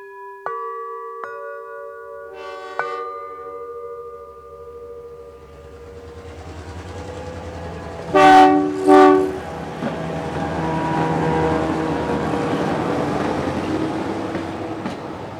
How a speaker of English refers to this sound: In the night train, the diesel drone mixes with the rice fields and the forests of bamboo.